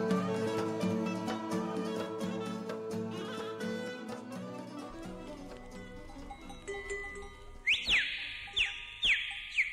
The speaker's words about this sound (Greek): Αυτό το σφύριγμα